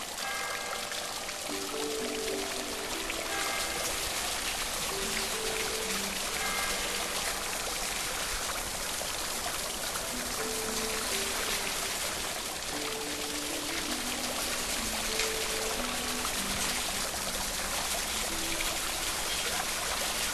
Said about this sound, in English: Putting aside your cares or inhibitions, you walk naked down the steps under a curtain of falling water.